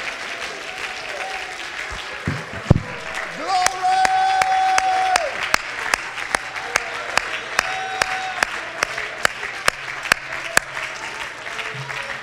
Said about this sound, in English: Oh, could you clap your hands and shout with your voice?